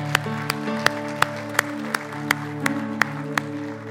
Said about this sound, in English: Let's give the Lord an applause.